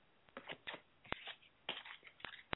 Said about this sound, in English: Okay, so I'm shuffling, so if you'd like to tell me when to stop, we'll choose a card for you.